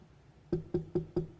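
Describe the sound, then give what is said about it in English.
Four firm knocks on a door in a steady, quick rhythm, fairly loud, with no voices, after a brief quiet moment. “Knock on your door.”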